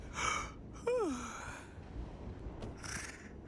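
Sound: snoring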